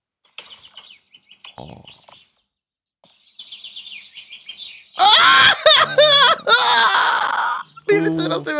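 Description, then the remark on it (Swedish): Faint chaffinch chirps and a quick high trill, followed by a loud, warbling human voice imitating the chaffinch's song in descending bursts. “Bofinken.”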